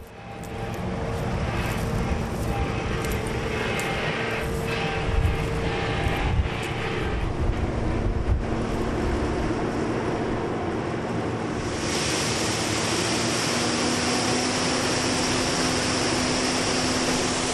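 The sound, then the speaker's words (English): A dense, steady rush of thousands of harvested beans pouring from a big arm on the side of a combine into a tractor's trailer, hissing like heavy rain over a low machine drone, turning brighter and sharper partway through. No one speaks. “It sounds like rain, but there's just thousands and thousands of beans pouring into the trailer.”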